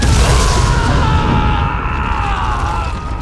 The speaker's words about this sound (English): Even from behind lidded eyes, they could see the bright flash of an explosion.